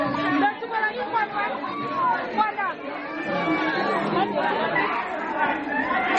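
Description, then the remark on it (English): A joyful crowd celebrating in a room in Chibok as 21 girls freed from Boko Haram reunite with their families, with many voices talking and calling out at once, and excited high-pitched cries rising over a loud, continuous wall of chatter. “The room almost vibrating with the sounds of unbridled joy.”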